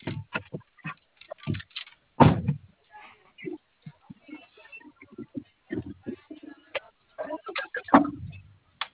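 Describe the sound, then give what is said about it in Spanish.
A vehicle door is slammed shut to make sure the doors are properly closed, a solid thump, with a second heavy thud near the end and scattered clicks and muffled voices in between. “¿Tienes bien cerradas tus puertas? A ver, ciérralo.”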